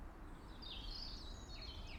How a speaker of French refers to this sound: C'est le tarier-pâtre. Quand il fait ce petit truc fin là, vu que c'est loin, ça peut faire un peu rémisse. Là, pour le coup, c'est lui, puisque ça correspond plus à son habitat.